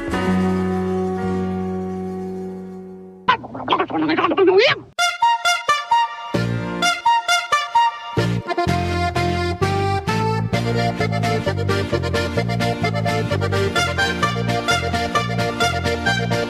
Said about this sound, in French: Alors ça, c'est pas du corps d'harmonie, je sais pas trop comment ça s'appelle, peut-être de la corne, tout simplement. Ouais, c'est des cornets en métal avec une poire en caoutchouc au bout, tu sais, les trucs qui servent de klaxon.